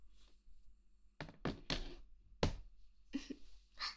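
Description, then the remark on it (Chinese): A mobile phone is tossed aside onto a surface, landing with a few dull thunks in quick succession as it settles, followed by faint rustling. “把手机扔一边去。”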